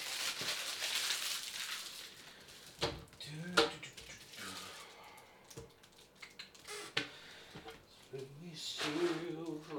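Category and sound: household object, washing dishes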